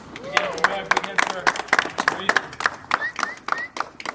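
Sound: polite applause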